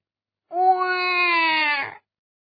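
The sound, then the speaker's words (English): A baby lets out one long, loud wail lasting about a second and a half, its pitch holding steady and sagging slightly before it breaks off. No one talks over it. “Until Jack found a wife. Chatter, chatter. And a baby.”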